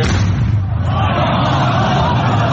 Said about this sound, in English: Amateur video showed worshippers shouting and screaming after the sound of the blast outside the Anoud Mosque in the eastern province city of Dammam.